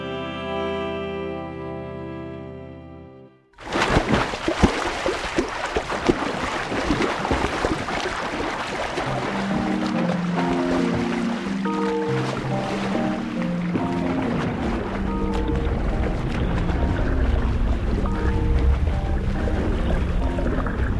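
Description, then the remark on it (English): A swimmer without a wetsuit churns through water in a steady, continuous wash of splashing and bubbling, fairly loud, with soft musical tones underneath after a brief sustained musical opening. “I am pulling myself through a tunnel of silk. A billion microscopic bubbles burst against my skin. Suspended in water, I feel like I'm flying.”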